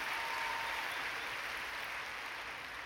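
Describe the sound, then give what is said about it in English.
An audience claps steadily for about three seconds, a dense crackle of many hands, with no voices over it. The applause is for two people who completed an obstacle course of weaving through cones, jumping a board and doing a wheelie in a circle. “Give these two round of applause.”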